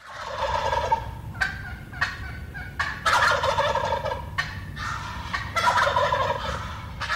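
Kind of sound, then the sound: bird, wild turkey tom gobbling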